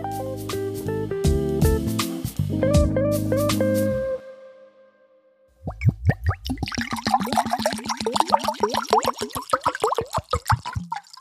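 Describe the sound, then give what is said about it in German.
A few seconds of bright musical tones fade out, then after a short pause water is poured into a glass with rapid gurgling glugs and splashes for about five seconds. “So, das Wasser ist eingeschenkt und damit kann die Folge auch gleich losgehen, denn ohne Wasser geht es nicht.”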